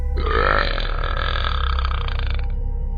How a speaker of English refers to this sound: It was a burp.